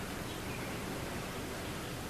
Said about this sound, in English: Sounds just like any plain old ocean to me.